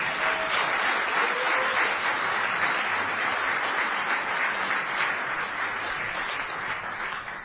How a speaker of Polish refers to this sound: Ja bym tak nie przesadzał z tymi oklaskami, to proszę Państwa, jak na skecie jest to mistrz świata 2010.